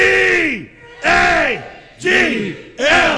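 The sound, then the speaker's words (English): A crowd yells an Eagles chant in unison, four loud bursts of shouting in a steady rhythm, each call falling in pitch before a short pause. “We got a great crowd forming over here.”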